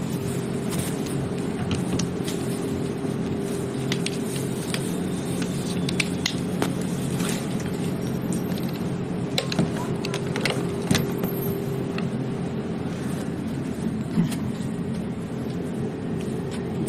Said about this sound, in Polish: Starszy tramwaj wysokopodłogowy